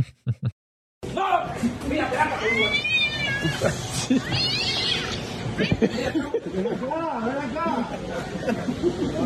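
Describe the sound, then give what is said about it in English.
A cat meows several times, drawn-out rising and falling cries standing out over a steady background of crowd chatter and indistinct voices. “By the way, Escobar's still afraid of cats.”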